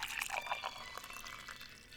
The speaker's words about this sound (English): Let me just pour you some tea.